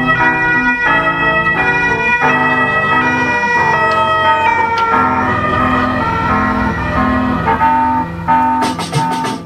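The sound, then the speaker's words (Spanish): An instrumental melody see-saws between two notes in a steady back-and-forth, mimicking a two-tone British police siren over a sustained, full accompaniment. It plays loud, with no voices. “Por si fuera poco, la melodía no pretende ir a ninguna parte y se limita a emular la sirena de una patrulla inglesa.”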